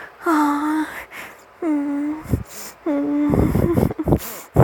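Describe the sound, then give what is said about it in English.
Three drawn-out, voiced moans during masturbation, each held for under a second, fairly loud, followed by several heavy, gasping breaths toward the end. No words are spoken. “And listening to me moaning and my whimpers and my heavy breathing.”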